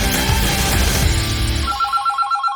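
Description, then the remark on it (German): A telephone rings in short, repeating electronic bursts that pulse steadily near the end, following a dense musical passage that fades out. No one speaks. “Anruf auf Knopfdruck. Jetzt am Telefon eine lebende Sportreporter-Legende,”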